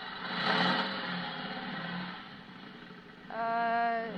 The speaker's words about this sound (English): Somebody must have given him a motorcycle. Gee, a motorcycle.